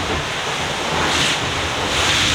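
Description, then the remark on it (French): A boat hull, accelerating through the waves, slapping on small wavelets amid a continuous rush of water and wind noise, loud, with a steady wash and soft irregular knocks, no voices. “Et qui tape un peu sur les petites vaguelettes.”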